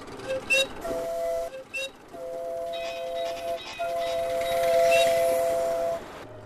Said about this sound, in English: The train park is a busy place. More than a dozen locomotives and their engineers are giving rides to family and friends.